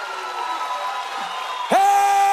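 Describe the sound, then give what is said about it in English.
A church audience shouts and cheers over a steady, sustained tone, with a sudden, louder burst of voices breaking out near the end. “Somebody shout with me. This is part of it. It's not just the preaching, it's the shouting.”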